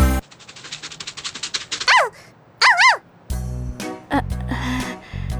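A dog lets out two loud, yelping barks, preceded by a rapid patter of quick taps and followed by heavy scuffling and thumping noises.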